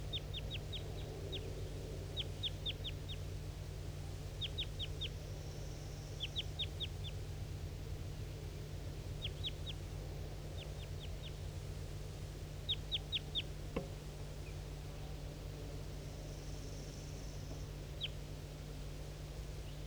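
A bird calls in short bursts of high, sharp chirps, repeated in quick clusters of three or four notes every couple of seconds, over a steady low hum with no talking.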